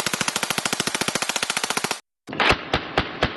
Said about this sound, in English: It's a Thompson submachine gun, known to 1920s gangsters as the Chicago typewriter, or simply the Tommy gun.